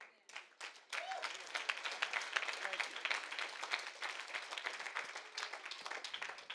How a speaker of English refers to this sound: They're only clapping because they felt obligated.